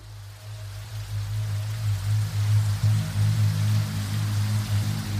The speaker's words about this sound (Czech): Vytrvalá, neustávající plískanice, provazy vody dopadající na nespevněné cesty a smívající všechny stopy, kapky deště bubnující na skleněné tabule lidských obydlí, ve kterých je možné najít útočiště před nečasem